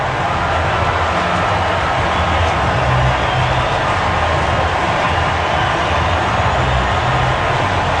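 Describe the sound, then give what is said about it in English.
A stadium crowd roars and cheers after Javier Baez's three-run home run to right field, his 100th career home run, a loud, unbroken wall of noise that holds steady for the whole stretch with no one speaking over it. “Three-run homer, Javier Baez. Listen to this crowd.”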